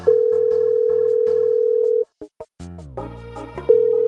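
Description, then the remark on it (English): A steady, loud telephone dial tone as a phone call is being placed hums for about two seconds, breaks off into a few short clicks and a brief burst of other sound, then the same tone resumes. “I'm too fast with the calling.”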